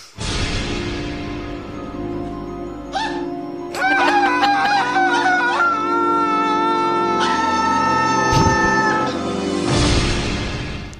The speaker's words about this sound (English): That sack of potatoes Foley effect there is Dale's fainting for the first of approximately 15 times.